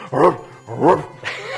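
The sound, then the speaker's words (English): A person imitates a dog barking: two loud, bark-like woofs about half a second apart, then a softer, drawn-out third yelp trailing off, with no other talking. “Give us a good bark.”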